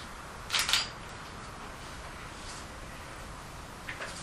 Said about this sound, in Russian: Так, сейчас я фотоаппарат просто выключила.